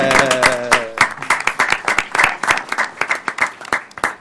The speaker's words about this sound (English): I think this deserves a round of applause. Yeah.